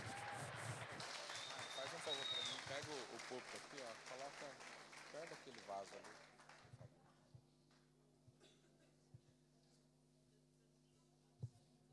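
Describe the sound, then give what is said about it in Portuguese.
A church audience claps and cheers loudly for about six seconds in praise of the Lord, voices ringing out through the applause, then it dies away to a few scattered claps. “Aleluia, aplauda o Senhor em seu lugar.”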